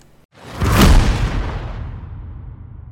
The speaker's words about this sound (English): Now, you can't tell me that you don't like the lightning, and obviously the lightning round, but you don't like the lightning sound effect. Of course you do, dang it.